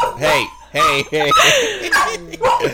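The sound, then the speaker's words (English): Several dogs bark and yip excitedly in quick, overlapping bursts, with a few whiny, whimpering tones mixed in between the louder barks. “Dogs, oh my god.”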